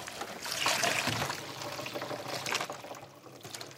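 Maple sap from tapped trees pours steadily from a collection bucket, a continuous splashing gush that swells early on and trails into a lighter trickle, with no voices.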